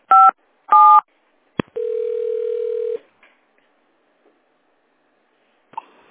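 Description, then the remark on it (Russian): Two short telephone keypad dialing tones beep in quick succession on a call to a city monitoring center's phone line, followed by a click and a steady mid-pitched line tone holding for about a second, then near silence and a faint click. “Если вам известен внутренний номер телефона сотрудника, наберите...”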